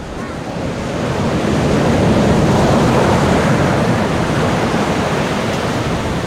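Ocean waves rumble steadily against the shore, a dense, continuous roar that swells in over the first second and holds loud throughout, with wind noise mixed in and no voices.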